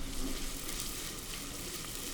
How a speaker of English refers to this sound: Into the ghee goes finely diced onion. And you can hear that sizzling.